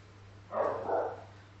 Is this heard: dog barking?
yes